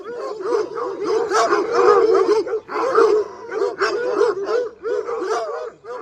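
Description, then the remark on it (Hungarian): Two panting dogs bark and yip excitedly, their overlapping high, whining calls running almost nonstop over several seconds, with no one speaking. “Nézze a kinyújtott piros nyelveiket, mint a két virág lenne. Két lihegő virág.”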